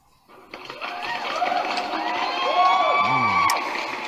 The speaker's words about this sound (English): That was very pleasant. It was like it started up as like a slow golf clap, but well done. The people were happy out there in the audience, hi. Yeah, they're excited.